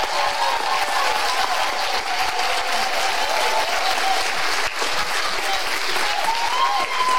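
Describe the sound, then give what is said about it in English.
Loud, sustained applause from a large church audience standing and clapping as loud as they can for their pastors, a dense wash of clapping that holds steady for several seconds, with faint cheering and voices mixed in. “I want you to just clap as loud as you possibly can and just tell them how much you love and appreciate them.”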